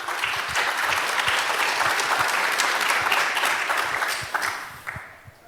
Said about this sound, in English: Of course, we have to thank the C3 VOC, the formerly also known as the Froscon video team, which did a fusion with some people from Ilmenau. Big applause.